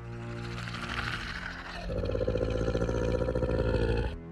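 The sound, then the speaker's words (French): The growl of a monstrous giant crocodile-boar at its cave, deep and rumbling, lasting about four seconds. It starts as a rough snarl, then swells into a louder, throbbing roar before cutting off abruptly. No voices. “Ce doux grognement est toujours annonciateur d'un magnifique spectacle.”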